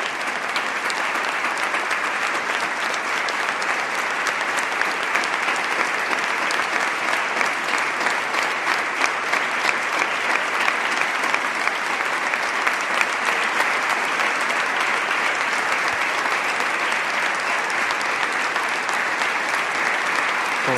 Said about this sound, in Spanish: Pie aplaudiendo a un Santiago emocionado. Estampa histórica para la diócesis de Huelva